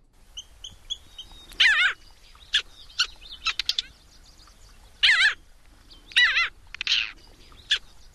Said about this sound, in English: Is it a craw-billed bitter-crested parasitic Jaeger? It's a parasitic Jaeger.